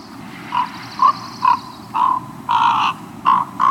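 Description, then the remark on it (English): A raven makes a run of about eight soft, warbling gurgles in quick, uneven succession while a courting pair sits side by side preening each other's feathers, over a low, steady background rumble. “During courtship, the pair will often sit side by side, gently preening each other's feathers. And during that ritual, they may make these warbling sounds.”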